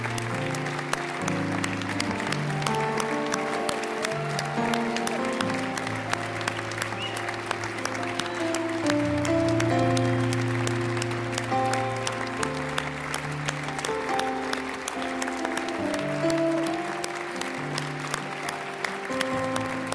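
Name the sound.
audience applauding and cheering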